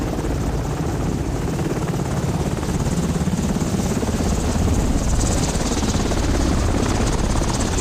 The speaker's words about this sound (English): A helicopter arrives, then hovers, and starts its slow descent.